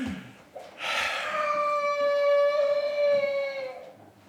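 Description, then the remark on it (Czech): A young child lets out a single long, high-pitched crying wail that starts abruptly, holds loud and steady for about three seconds, then trails off. No talking is heard. “To je dobře, že tady jsou slyšet děti.”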